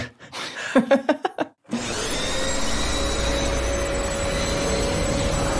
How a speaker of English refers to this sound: It seems like our sound designer seems to think we're riding our vacuum cleaners there.